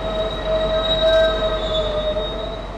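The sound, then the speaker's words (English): A MARTA train's wheels squeal steadily against the rails at Lindbergh Station, two stops north of Midtown, producing sustained high-pitched metallic tones over a rumbling, noisy background. Fairly loud, with no voices present. “There are only three train lines, a single east-west line and a north-south line that forks off in two directions north of here, Lindbergh Station, two stops north of Midtown.”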